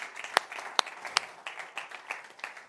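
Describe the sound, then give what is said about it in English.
A church audience applauds and cheers in the morning, with dense overlapping claps and a few sharper, louder claps standing out. “But, I mean, can we just give God and each other a big cheer this morning?”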